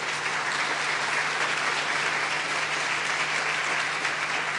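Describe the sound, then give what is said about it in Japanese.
Steady welcoming applause from a church audience for a guest speaker, many hands clapping in a dense, even patter that holds at a constant loudness for several seconds with no voices over it. “まずはじゃあ歓迎の拍手をしましょうか。”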